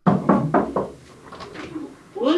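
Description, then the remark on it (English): Four quick, solid knocks on a front door in a steady rhythm, followed by a short hush before a voice begins speaking at the very end. “The French rarely knock on their neighbors' doors, so asking a stranger to talk politics during election season is something new.”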